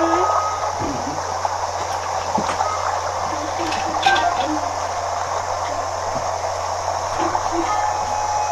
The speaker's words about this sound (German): Und fließt halt einfach ein Fluss an.